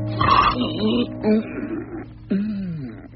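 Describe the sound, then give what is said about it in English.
A voice imitates a man's loud snoring in bed: three throaty, snorting bursts with a rough, grunting tone, each rising and falling in pitch, with no talk alongside. “He sat up in bed suddenly in the midst of a prodigious snore.”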